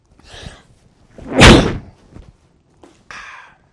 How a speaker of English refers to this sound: I'm going to sneeze. Thank you.